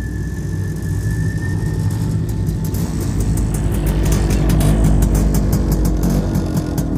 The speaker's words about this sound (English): The sound of a motorcycle down the road caught our attention.